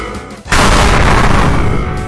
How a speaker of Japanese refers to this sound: 誠は近くにあったパイプ椅子で 装置の一つを強く叩いた。